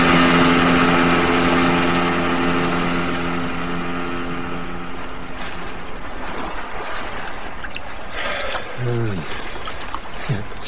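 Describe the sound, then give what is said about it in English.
A small motorboat's engine drones steadily over rushing, splashing water as the boat heads out of a port to sea, the hum gradually easing off, with a brief voice heard near the end. “Always feels so much faster when you're in a little boat.”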